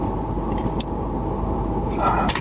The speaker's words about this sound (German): Ach, so eine automatische Garagentür hat schon was für sich.